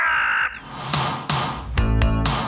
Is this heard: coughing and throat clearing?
no